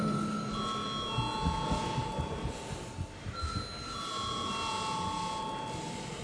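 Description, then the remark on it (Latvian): A steady electric parliament bell rings in two long, sustained bursts with a brief dip between them, bright tones held over a low murmur of background noise, calling members to vote on whether an amendment to the State Social Benefits Law is urgent. “Lūdzu, zvanu.”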